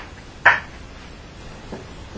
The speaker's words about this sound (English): Okay, I thought I heard something, actually. Knock? Yeah, do it again. It was quiet. Okay. If it was you, could you do it a little bit louder? We couldn't hear you.